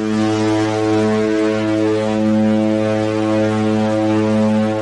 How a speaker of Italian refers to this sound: Anche questo viaggio sta volgendo al termine, ce lo ricorda la nostra sirena.